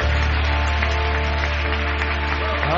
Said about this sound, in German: Komm, lass uns Jesus einen kräftigen Applaus geben einfach.